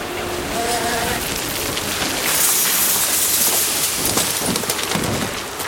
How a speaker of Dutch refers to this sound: Het kuil wordt volgestort en daar gaan de shovels. Ik wil egaliseren. U hoort het heen en weer brullen van de shovels.